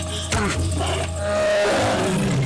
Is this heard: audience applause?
no